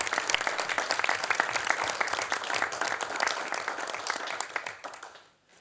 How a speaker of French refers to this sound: vous voyez, vous pouvez les applaudir. J'espérais bien que quelqu'un le ferait.